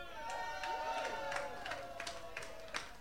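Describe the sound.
Steady applause from an audience welcoming the evening's third band, a symphonic rock band, dense clapping with sharper bursts, mixed with cheering and whooping voices that rise and fall over about three seconds.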